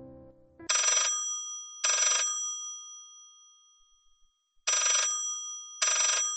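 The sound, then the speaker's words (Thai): An old-fashioned telephone, antique-looking but stylishly designed and sitting on a table near a balcony, rings loud in two pairs of short, jangling bell bursts, with a longer silent gap between the pairs. “ขยับมือเตรียมเปิดมันออกแต่กลับมีเสียงโทรศัพท์มาขัดจังหวะ”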